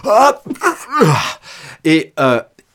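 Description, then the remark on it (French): A person acts out a stifled sneeze: a string of short, strained, breathy vocal bursts and gasping catches of breath, ending in a tiny clipped puff instead of a full sneeze. “Il y a plein de gens à qui on a appris que pour éternuer, ils devaient faire comme ceci.”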